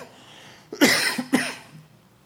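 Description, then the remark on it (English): Two sharp, dry coughs in quick succession, fairly loud, with a brief pause between them and quiet background before and after. “This is the dry cough here.”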